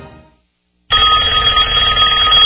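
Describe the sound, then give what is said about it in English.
A loud telephone bell starts ringing abruptly after a brief silence, a continuous bright metallic jangle that fills the rest of the moment, unaccompanied. “Does this sound bring on a sudden onset of fear? A fear of not knowing who's on the other end?”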